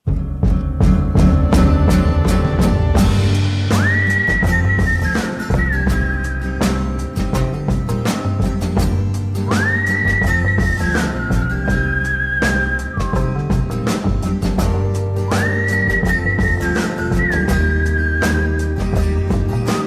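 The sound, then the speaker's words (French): A man whistles a rising, sliding melody over a full pop backing of bass and drums, the same short phrase coming back about three times, clear and upfront in the mix. “Et puis, il y a même un gars qui siffle.”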